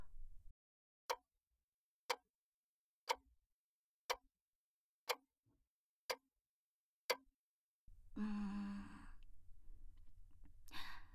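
Seven crisp, evenly spaced clock ticks about one second apart, clear, followed by a long breathy sigh or exhale that fills the last few seconds.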